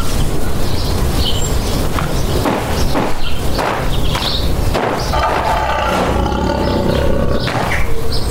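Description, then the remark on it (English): A lion roars loudly in a series of deep, rumbling bursts, with faint bird chirps and rustling in the background and no one speaking. “If you're that lion, I hate to ask for help again so soon, but have you seen Edison?”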